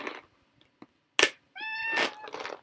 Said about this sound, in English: Here, Berlioz. Hi, kitty kitty. Hello. Meow.